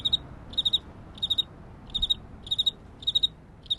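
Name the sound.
crickets chirping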